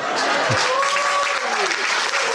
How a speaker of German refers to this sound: Den Applaus, den nehmen wir noch eben mit.